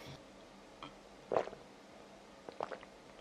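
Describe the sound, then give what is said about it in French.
Someone drinks from a new water bottle, with two short gulping swallows about a second apart over a quiet, faintly humming background. No one speaks. “Je vais boire un peu parce que.”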